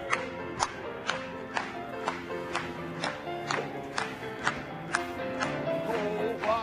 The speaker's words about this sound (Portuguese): Vamos bater palmas para ele mais uma vez.